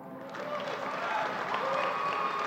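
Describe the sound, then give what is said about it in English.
An audience breaks into steady applause, a dense wash of many hands clapping at once, rising quickly and holding at a fairly loud level with a murmur of crowd voices mixed in. “Everyone applauds.”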